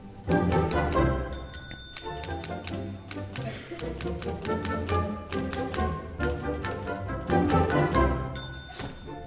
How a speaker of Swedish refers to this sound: I det här stycket ska vi då få höra något så originellt som ett verk som är skrivet för en skrivmaskin bland annat. Det förutsätter då att man har en skrivmaskin av den gamla sorten. Ni vet hur de låter.